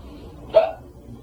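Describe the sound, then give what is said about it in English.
A single quick sneeze bursts out sharply against a quiet hum, brief, with no talking around it. “Bless you.”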